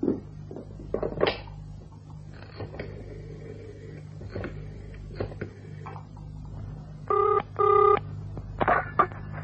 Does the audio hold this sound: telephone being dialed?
yes